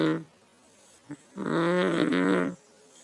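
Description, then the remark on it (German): A child snores softly: a brief snuffle, then one drawn-out, buzzy breath lasting about a second, with a faint sound at the very start and quiet in between. “Das Kind, es schläft einfach weiter. Wir hören es leise schnarchen.”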